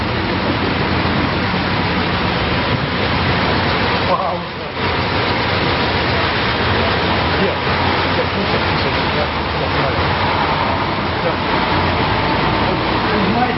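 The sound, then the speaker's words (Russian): A passing car stops with its engine left running, a loud, steady rumble and hiss that barely changes for the whole stretch, dipping only briefly once. Indistinct voices sit faintly beneath the noise. “Мы можем все запланировать, все раз прекрасно запланировать, но проедет машина, и она полностью меняет, наше пространство, наше поле, наши даже планы.”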